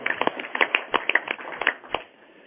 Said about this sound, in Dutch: Kijk eens aan, daarmee van harte gefeliciteerd en bent u bij deze benoemd tot directeur van de Rekenkamer in Gieselanden. Ik wou bijna zeggen, daar mag u wel voor klappen, vind ik eigenlijk wel, ja.